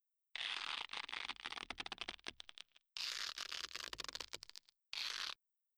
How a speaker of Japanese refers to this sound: 変なことをしないように、手首をガムテープで縛るわね。じっとしてなさい。